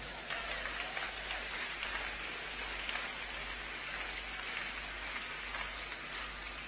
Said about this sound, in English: Let those people clap for themselves.